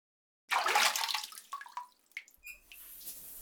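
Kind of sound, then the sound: household object, shower water running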